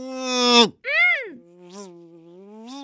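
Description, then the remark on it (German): A mosquito buzzes in a few whining bursts, its pitch swooping up and down between a brief gap, with a lower, steadier drone at the end and no talking. “Mach die Mücke, sonst kriegst du's mit mir zu”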